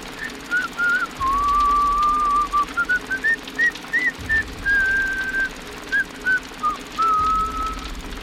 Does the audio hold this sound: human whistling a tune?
yes